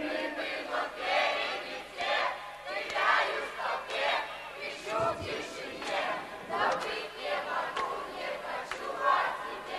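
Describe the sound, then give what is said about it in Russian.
A large audience sings a Russian song together in loud, rhythmic unison, voices swelling in repeated phrases, with no single speaker standing out. “Песни, которую мы сейчас еще раз повторили, давайте все вместе споем.”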